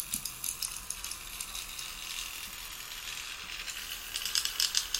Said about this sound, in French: Ça, c'est le vrai vol de libellule. C'est vraiment les ailes qui crépitent.